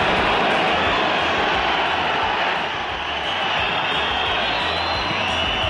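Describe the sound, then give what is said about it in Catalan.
A stadium crowd roars in celebration of Pacha Espino's lobbed goal for Rayo, shot from the left into the far post: a loud, dense wall of cheering and shouting that holds steady for several seconds, dipping slightly midway before swelling again. “Així ho celebrava l'estadi, xut entra fort i vaselina d'Espino des del carril esquerre 10 metres de la frontal, la pilota fa una bona paràbola i entra pel pal llarg.”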